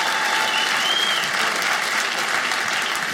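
An audience bursts into steady, sustained applause, a dense wash of clapping hands filling the room at a consistent level for a few seconds, with no voices rising above it.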